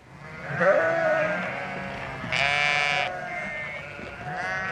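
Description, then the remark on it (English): Several sheep bleat in overlapping, wavering calls, with one louder bleat standing out midway among the continuous flock noise. No one speaks. “After a time, the sheep were then ushered into single file and then loaded onto the truck, looking a little bewildered at what was taking place, uncertain of their fate, many still bleating.”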